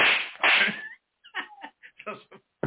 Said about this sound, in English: Give us a good slap.